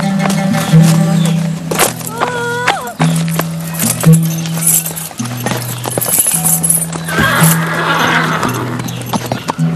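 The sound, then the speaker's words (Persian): Horse hooves clip-clop in a steady rhythm as a rider is sent off in a hurry on the horse, while a horse neighs and whinnies loudly over them, with other busy sounds in the background. “عجله کن، با اسب من برو.”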